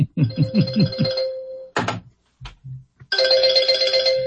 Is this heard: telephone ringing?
yes